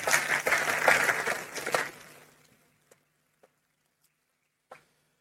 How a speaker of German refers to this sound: Einen herzlichen Applaus, Viktor, die Bühne gehört dir.